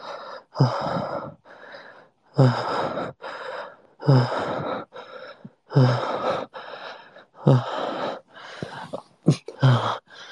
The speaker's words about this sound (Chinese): 好一些，好一些呼吸好吗？和我一起喘息，宝宝。